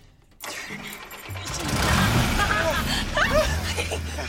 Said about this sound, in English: The car lurches. Right, you have to keep the clutch in.